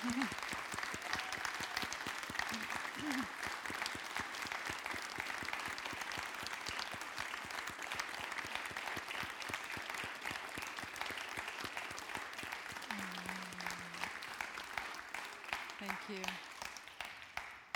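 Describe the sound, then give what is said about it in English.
A large standing audience claps steadily and densely for nearly eighteen seconds, the applause holding loud throughout, with a few brief shouts and whoops rising above it, in honor of practitioners who have passed away. “So in honor of Linda and Fred and the other practitioners that have passed in years past, let's all stand up and just clap our hands and shout and holler for them.”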